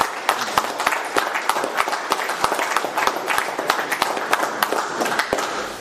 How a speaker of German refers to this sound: Das ist heute ein Applaus.